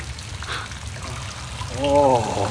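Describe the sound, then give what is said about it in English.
Steady rain hisses and patters continuously, even in level, while a voice briefly exclaims over it near the end. “Oh. Listen. Oh. Oh. It's rain.”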